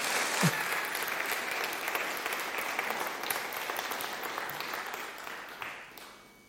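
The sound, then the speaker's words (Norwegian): An audience applauds a speaker back to their seat, a dense wash of many hands clapping at an even, fairly loud level for several seconds before tapering off at the end. No one speaks over it. “Vi lar det være med det og klappe bare deg ned igjen for å si det sånn.”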